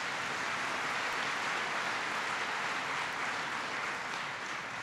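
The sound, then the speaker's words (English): Sustained crowd applause for the mayor at an event at Allison in Indianapolis, a dense, steady wash of many hands clapping at an even loudness for about five seconds with no voices standing out. “Give the mayor a big round of applause.”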